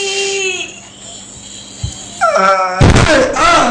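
A hard, heavy thump of a small body crashing into the door of an old refrigerator while trying to force it open, preceded by whiny, wailing vocal sounds that carry on in strained cries right after the impact.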